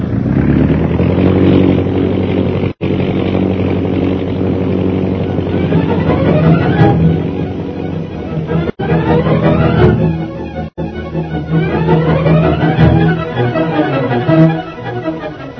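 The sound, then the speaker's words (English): Bomber airplane engines roar steadily and loudly, revving up in several rising sweeps of pitch as the bombers take off to circle, with no voices over the din. “Rogers, take off in circle until the pursuit planes fall in behind you.”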